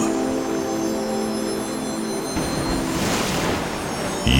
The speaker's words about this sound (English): She will always be timeless. Ocean. She's very powerful.